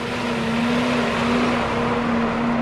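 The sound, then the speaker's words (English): A feed truck rolls by at a feedlot in Nebraska, dumping feed into the bunks, with a steady, droning engine hum and a continuous rushing noise over it, holding an even loudness throughout, with no one talking. “A feed truck rolls by, dumping feed into the bunks at the Van Housen feedlot in Nebraska.”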